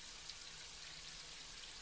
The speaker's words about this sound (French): La pluie s'offre à la terre. C'est une promesse.